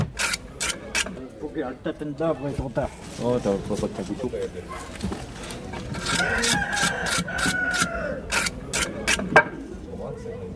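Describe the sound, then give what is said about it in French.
A rooster crows and clucks, its strained calls rising over people talking, with scattered sharp clicks and rustling handling noises throughout, as the rooster is put into a draining rack. “On met le coq dans l'égouttoir.”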